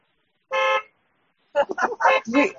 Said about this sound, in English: And folks, are there cars in the parking lot who want to give a honk?